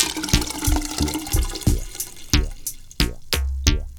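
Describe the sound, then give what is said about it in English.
Water gurgles and glugs down a drain in a quick series of bubbly bursts, fairly loud, with no voices. “Water goes down the drain.”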